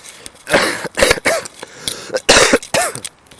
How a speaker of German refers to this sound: Ja, der Husten.